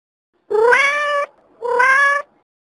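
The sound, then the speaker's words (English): A kitten meows twice, each call drawn out and slightly rising, with a short pause between them. The cries are clear, with no other sounds around them. “Pussy, our kitten, sees the ball.”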